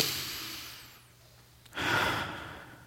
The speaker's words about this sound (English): One of the things I do in the midst of this is I just kind of breathe in really deep.